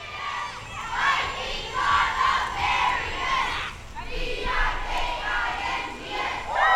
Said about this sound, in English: The Viking Swim Club, Petersburg's youth swimming team, held up handmade signs, cheering and congratulating the high schoolers on their successes at state.